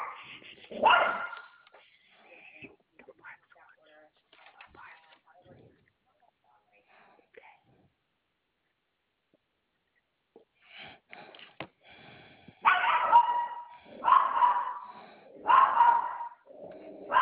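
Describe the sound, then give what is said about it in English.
A dog barks loudly: one sharp bark at the start, then a quieter stretch of faint yips and sniffs, followed by a run of four or five strong, evenly spaced barks. “I'm sorry, I have the barking.”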